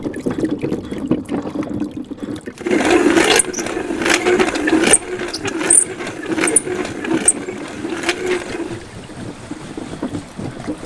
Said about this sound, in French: les Hautes-Pyrénées, au moulin de Saouzas, le moulin à farine fonctionne avec cette roue. La roue est sous le moulin, donc il n'y a pas besoin d'engrenage pour envoyer la force. C'est relié à la meule en pierre, en fait, c'est ça ? Directement, oui.